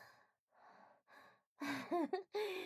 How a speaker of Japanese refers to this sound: もう息荒げすぎですよ。首筋にまでハァハァってオスの息当たってます。